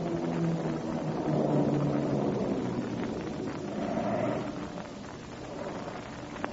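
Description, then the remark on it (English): A steady, droning engine of an airplane in flight hums continuously at moderate volume, its low tones wavering slightly and easing a little toward the end, with no voices present. “So they can hear our plane.”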